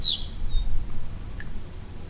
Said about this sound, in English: And this is Sunset Pass. This is the North Slope area. Again, blue throats, snits, longspur, red poles, and sparrows.